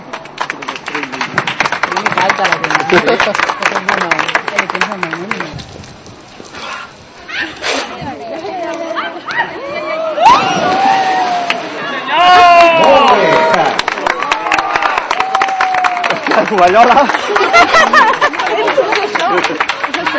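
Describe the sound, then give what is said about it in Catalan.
An audience applauds steadily for around twenty seconds in thanks to the Sant Cugat local television and radio. The clapping dips briefly partway through, then swells again as voices and cheering mix in before the applause resumes strongly. “Amb ells també els hi volem donar un fort agraïment i crec que està un aplaudiment amb ells.”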